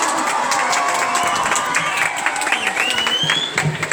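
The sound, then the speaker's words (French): A crowd applauds and cheers steadily for the pupils at a school sustainable development event, a dense wash of clapping with high whoops and shouts rising over it, including a few rising cheers near the end. “Et bien sûr, les plus forts applaudissements sont pour vous, chers élèves, car sans vous, tout cela ne serait pas possible.”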